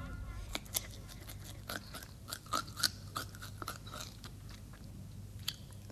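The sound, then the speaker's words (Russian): A hare crunches and chews cabbage: a quick, irregular series of crisp, snappy bites and munching sounds, a few louder crunches standing out over a low, steady background hum. “Эх, капустка хороша.”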